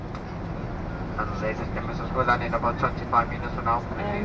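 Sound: airplane cabin engine noise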